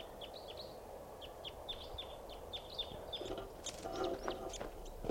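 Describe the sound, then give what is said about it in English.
Rapid series of short, high-pitched chittering calls from a wild crossbill in flight, repeated in quick bursts over a steady background hum, with a few louder sharp notes near the end. “Sort of chittering there in flight.”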